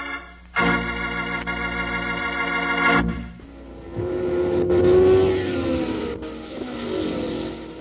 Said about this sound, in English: How exciting it is to go to the hot rod races, watching those fast, souped-up cars burn up the track.